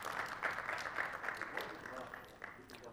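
A room full of people applauds, a steady wash of clapping that holds at an even, moderate level for a few seconds before easing slightly toward the end.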